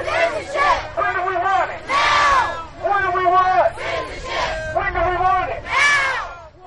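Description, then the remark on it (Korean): A large crowd of high school students, arrived by bus from across the United States for an immigration rally, shouts and cheers in repeated loud bursts as their school names are called from the podium, voices swelling together in rhythmic waves of yelling like chanting at a rally, energetic throughout. “연단에선 학생들은 각 지역에서 도착한 고등학교의 이름을 외쳤고 그 학교의 학생들은 크게 소리를 지르며 환호하기도 했죠.”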